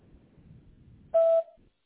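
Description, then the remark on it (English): A single steady electronic beep, a cell phone voicemail recording tone, a pure mid-high tone lasting about a quarter second, sounds after a faint low murmur, followed by a short fade and then silence. “At the sound of the tone, please leave your name and number in a brief message, and I'll be sure to call you back as soon as possible.”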